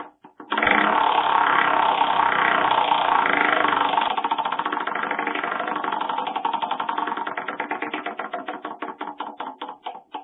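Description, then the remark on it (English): A prize wheel on a poker show spins to pick a prize, with a loud, rapid rattle of ratchet clicks that gradually slow into distinct, spaced-out ticks as it winds down, with no voices. “All right, let's spin the wheel.”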